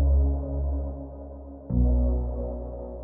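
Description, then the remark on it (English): A deep, sustained synth bass tone of the kind heard on much current dance music, with rich low harmonics, played alone. It swells, fades, then is struck again, with a washy, echoing tail of reverb and delay. “It's a great sound, that, and unusually for a bass element, it's got a load of reverb and delay on it, which adds to its character.”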